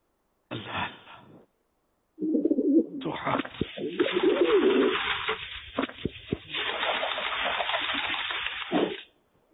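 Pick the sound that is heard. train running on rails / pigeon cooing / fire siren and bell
pigeon cooing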